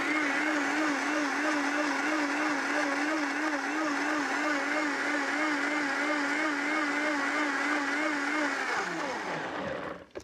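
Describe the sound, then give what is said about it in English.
A blender runs steadily at high speed, blending cashew nuts with about half a cup of water into cashew cream, with a loud, dense whirring roar and a slightly wavering pitch, then winds down and stops near the end. “So keep blending until it's really, really fine.”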